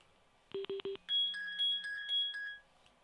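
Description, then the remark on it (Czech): A telephone rings for an incoming call: four quick electronic beeps, then a longer pulsing two-tone ring, heard clearly on its own with no talking. “máme tady telefonek, takže já pak domyslím.”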